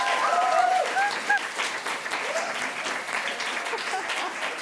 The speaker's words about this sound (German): Und für alle anderen haben wir sie heute eingeladen, die Pippi Langstrumpf-Illustratorin Katrin Engelking. Und jetzt haut mal einen ganz großen Applaus raus.